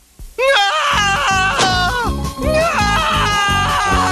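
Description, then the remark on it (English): John Arbuckle screams loudly and at length, his high, wavering voice holding for a couple of seconds, breaking off briefly, then carrying on over a low, pulsing backing. “I haven't heard John scream like that since I waxed the kitchen floor with cream cheese and went skating.”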